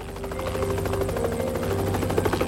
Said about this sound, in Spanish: La búsqueda continuó durante toda la noche. Examinaron el lugar centímetro a centímetro mientras helicópteros observaban desde el aire.